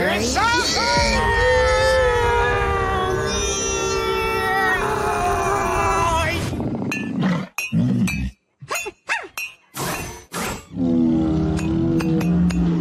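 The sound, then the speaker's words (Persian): After several seconds of loud, strained vocal sounds, an unbreakable glass kettle is struck repeatedly: a cluster of sharp clinks and knocks with brief silent gaps between them. “وای عجب شیشه نشکنی داره.”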